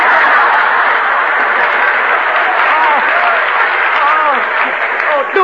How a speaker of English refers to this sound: Hey, Confucius, ….